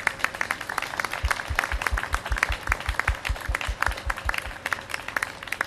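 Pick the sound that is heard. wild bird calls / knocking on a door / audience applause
audience applause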